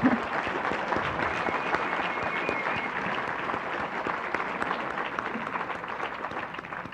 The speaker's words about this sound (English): How about another round of applause? They deserve it.